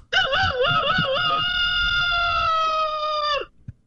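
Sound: rooster crowing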